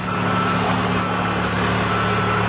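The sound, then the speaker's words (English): The engine of an orange school bus idles in the late afternoon as it drops off children up a hollow, a steady low rumble with a droning hum that holds level throughout, with no voices heard. “In the late afternoon, an orange school bus crawls up the hollow and drops off Janet's two sons and her nieces and nephews.”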